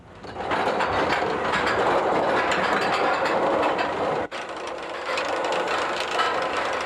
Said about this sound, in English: See that chain? The cars hook onto it. That chain pulls the whole train to the top of the first big hill. Once you get to the top, the chain releases the cars and gravity takes you the rest of the way.